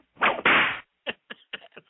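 A whip-crack sound effect: a loud whip crack with a long swishing tail, followed by a rapid series of four or five sharper, quieter cracks in quick succession.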